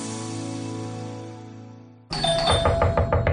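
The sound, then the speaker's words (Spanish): A doorbell's ding-dong chime rings and slowly fades, then gives way abruptly to a louder, brighter burst of rhythmic, pulsing sound from a television playing at full volume. “Papá, ¿no oyes el timbre?”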